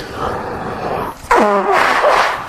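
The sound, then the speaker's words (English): Someone blows their nose: a long, breathy rush of air, a brief pause, then a honking, tonal blast that trails off into more noisy exhalation, loud. “So, please blow your nose if you have any tendency towards sniffling.”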